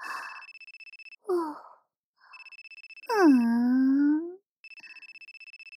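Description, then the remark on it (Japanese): A smartphone rings with an incoming call from the owner's girlfriend, a rapid, pulsing electronic ringtone in three bursts, broken up by a breathy sigh and a long, falling moan. “ねえねえ、今あなたに電話をかけているこの子って、あなたの彼女さんだよね。”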